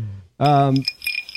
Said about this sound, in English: Ice cubes and scotch, which is I missed.